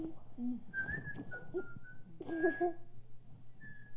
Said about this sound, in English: Oops, can't do it anymore. I didn't think you could whistle with your braces. You can't whistle in the morning. It's hard. I have to get my lips all wrapped around.